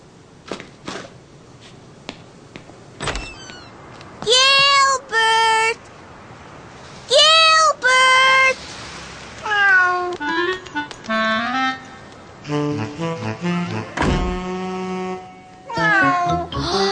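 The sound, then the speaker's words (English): Sarah's cat Ollie meows repeatedly, a string of loud, drawn-out calls that rise and fall in pitch, separated by brief pauses, with a few faint clicks at the start. “But it wasn't Gilbert. It was Sarah's cat, Ollie.”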